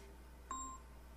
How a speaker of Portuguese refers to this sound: E o telefone já tá tocando de novo. Deixa eu ver quem é.